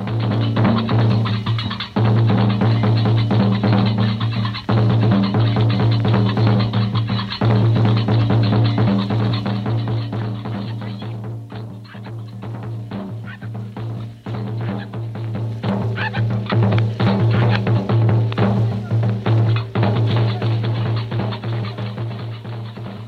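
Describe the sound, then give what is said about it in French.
Guinean drummers in long royal-blue robes play on Jemaa el Fna square, a loud, dense stream of rapid hand-drum strikes over a steady low droning tone, continuing without pause and with no one speaking. “Tenez, voici par exemple les tambourinaires de Guinée, des noirs en longues robes bleu roi qui ont traversé le désert par caravane en venant de Conakry, ou d'ailleurs, et qui sont arrivés ici, là, sur la place Jemaa el Fna.”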